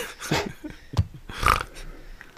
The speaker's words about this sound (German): Oh, da wurde mal kurz gegrunzt, das oder? Schweinchen.